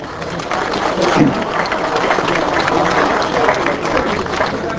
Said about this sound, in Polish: Myślę, że te brawa się należą.